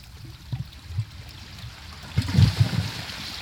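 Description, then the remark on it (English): Sea water sloshing and gurgling between a group of rocks on the sea at Phu Quoc Island, Vietnam, recorded in late 2007; a steady low wash with a louder surge of splashing midway, then settling back into a soft churn. No voices. “This recording was made between a group of rocks on the sea on Phu Quoc Island.”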